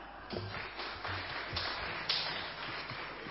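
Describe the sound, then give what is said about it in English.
An audience claps after a performance, a steady wash of many hands with a few sharper individual claps standing out, fairly soft and even throughout. “You didn't need to clap, that was dreadful.”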